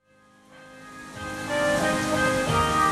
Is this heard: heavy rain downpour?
yes